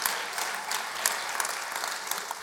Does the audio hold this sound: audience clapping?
yes